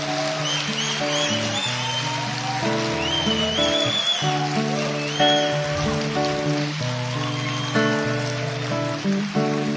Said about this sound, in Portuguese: Aplausos.